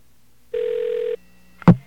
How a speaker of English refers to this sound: Okay, we are connecting to customer service. Customer service is ringing.